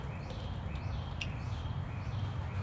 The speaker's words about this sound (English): Hope you can hear that nature. There's a bird in the back. Nothing like nature, you know. Birds chirping, cars flying by a residential area.